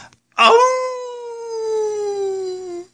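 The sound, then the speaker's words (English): A radio DJ on the station WRICH 109.9 imitates a wolf howl: one sustained, clear tone about two and a half seconds long that starts abruptly and slowly sinks in pitch before cutting off. It is loud. “I'm jacked up and wolfing out. I'm howling for you on the number 11 hit music station, WRICH 109.9.”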